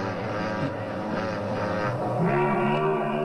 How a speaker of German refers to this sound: Ja, der brummt so, ne? Pass auf, ich finde es voll furchteinflößend. Ja. Ja, das ist jetzt Motorrad. Das hört sich wie ein Motorrad an, ne? Das ist auch ein Motorrad.